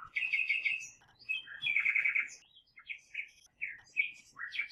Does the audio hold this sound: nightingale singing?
yes